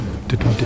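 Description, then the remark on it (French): A voice imitates train bogies clacking over rail joints: three quick, rhythmic mouth-made clacks in under a second, moderately loud. “Quand il traversait un tunnel, où on entendait le bruit spécial du train dans le tunnel, mais toujours avec derrière ce bruit que font les bogies quand elles passent sur les jonctions des rails.”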